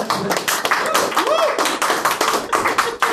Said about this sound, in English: I demand a round of applause.